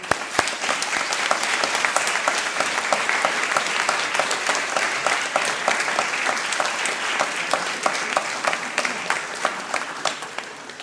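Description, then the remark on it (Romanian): Steady applause from a church audience fills the whole stretch, dense overlapping claps at an even, fairly loud level with a few sharper individual claps standing out, and no talking over it. “Să-i aplaudăm!”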